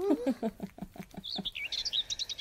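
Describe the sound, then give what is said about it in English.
Birds chirp in a quick series of short notes, starting with lower rapid tweets and rising into higher, whistled chirps, fairly clear with no talking. “The birds are chirping.”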